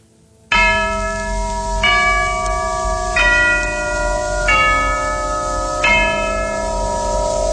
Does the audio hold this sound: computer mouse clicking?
no